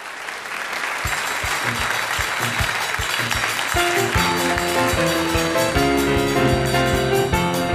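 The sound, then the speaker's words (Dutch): A large theatre audience at the Hofplein Theater in Rotterdam claps steadily on 6 November 1981, filling the room, as a thumping beat kicks in beneath the applause and a band's melody soon joins, the clapping continuing over the music. “De datum is 6 november 1981 en het publiek is er al.”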